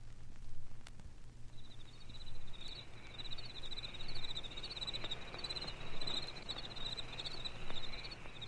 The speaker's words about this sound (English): cicadas sing a buzzing requiem to the green and golden dying summer, who sheds her leaves like tears on the ground near my resting tree.